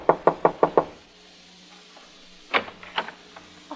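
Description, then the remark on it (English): Five quick, firm knocks on the door of apartment 4C at the Haifa Arms in an even rhythm, then a pause before a looser flurry of knocking and shuffling sounds, with no voices. “I knocked at the door.”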